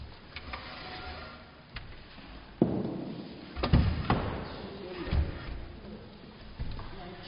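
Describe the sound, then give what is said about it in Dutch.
A chair is shifted away across a floor before a church service, with a few dull thumps and short scraping bumps over several seconds against a quiet background. “Maar de stoel moest even weg.”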